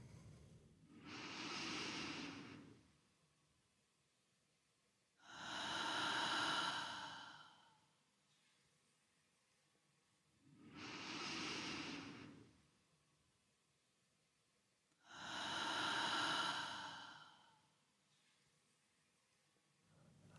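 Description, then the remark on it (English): Slow, deep breathing as a breathing exercise, in four long cycles, each inhale and exhale lasting about two seconds with quiet gaps between, airy with no talking. “When you feel it's okay again, try following the deep breathing again.”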